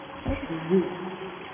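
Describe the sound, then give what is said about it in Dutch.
A steady trickle of water poured from a small watering can into a baptismal font, splashing softly and continuously, with brief voices murmuring over it. “Zo, dat mogen jullie er even luid klaterend in doen.”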